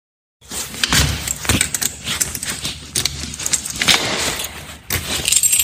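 household object, keys jangling

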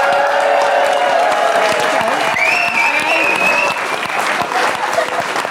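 crowd, audience applauding

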